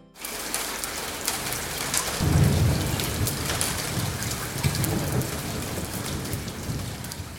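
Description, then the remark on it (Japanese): Heavy rain from a sudden evening shower pours down in a steady, dense hiss, and a deep roll of thunder swells in after about two seconds, rumbling low beneath the downpour before fading back into it. “激しかった夕立もからりと晴れ上がって、東の八ツ山の上には大きな虹がきれいなアーチをかけています。”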